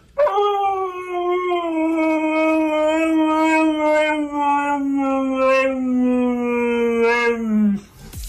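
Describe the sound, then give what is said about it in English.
A husky named Maverick, played on the radio, lets out one long, sustained howl lasting about seven seconds with a slowly falling pitch and a wavering, vocal quality before cutting off abruptly. “And my apologies to any dog owners listening this afternoon whose dog is reacting to Maverick on the wireless.”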